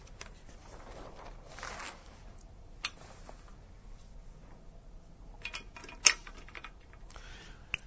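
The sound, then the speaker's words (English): Quiet rustling of a piece of paper that doesn't want to separate being handled and pulled apart, with a few sharper crinkles and small taps scattered through. No one speaks. “Sorry, let me just fiddle with this bit of paper, which doesn't want to separate.”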